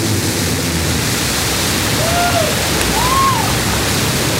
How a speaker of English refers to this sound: Command engine start. 2, 1. Ignition.